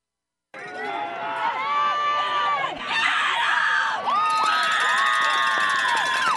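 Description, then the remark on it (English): A large crowd roars and screams continuously, with high-pitched shrieks and whoops layered over a dense wall of cheering that swells louder partway through, at a football game between Adrian Linaway Christian and ABS Tech. “All right, all that screaming, sorry for ABS Tech team, but play there for number 19 to pick up some yards for Adrian Linaway Christian”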